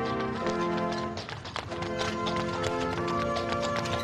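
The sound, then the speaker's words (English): Hooves of a horse-drawn carriage delivering the official Christmas tree to the front door of the White House clip-clop in a steady, irregular rhythm beneath loud Christmas music from a military brass band playing throughout, the hoofbeats partly masked by the sustained melody. “A horse-drawn carriage brought the tree to the front door of the White House as members of a military band played Christmas music.”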